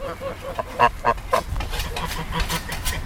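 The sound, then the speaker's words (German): Several geese in the Carpathian mountains honk at a visitor's arrival in short, harsh bursts, a few loud calls close together early on, then more scattered honks over a rough outdoor background. “Landwirte trotzen den steilen Hängen mit der Sense Gras ab, Gänse melden meine Ankunft.”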